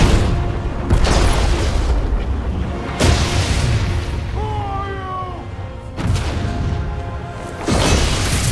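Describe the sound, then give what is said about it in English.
Lightning strikes: several loud, sharp cracks land a few seconds apart over a constant deep rumble, with a brief wavering tonal cry in the middle. “Large stranger needed fur cloak is surrounded by lightning strikes.”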